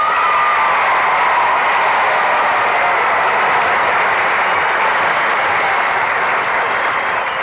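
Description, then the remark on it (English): The audience of the radio show Let's Pretend, presented by Cream of Wheat, claps and cheers loudly and steadily, a dense, unbroken wash of applause that holds the same level for several seconds without any voices standing out. “Well, now, that's a mighty fine round of applause.”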